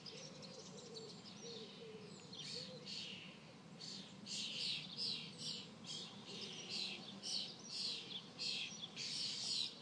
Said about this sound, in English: Can you hear the cuckoo? Spring is here. That's the cuckoo. How lucky am I? That's out of my bedroom window.